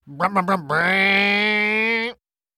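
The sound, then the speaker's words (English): A crowd vocally imitates a chainsaw starting, on cue as a woman pretends to start her arm like a chainsaw: three quick sputtering pulls, then a steady, buzzy, low-pitched drone that holds for about a second and a half before cutting off abruptly. “She took the other arm and pretended to start it like a chainsaw. And the crowd, knowing their cue, all began to make this noise.”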